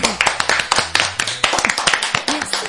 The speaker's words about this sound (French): notre invitée cette semaine, on l'applaudit très fort.